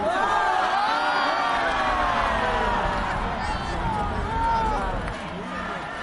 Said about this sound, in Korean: 숨을 죽이고 경기를 지켜보던 관중들은 아쉬움을 뒤로하고 괜찮아를 외치며 단일팀을 응원했습니다.